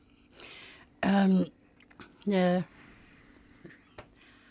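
Two loud, rough coughs about a second apart, with faint background noise and a couple of small clicks afterward.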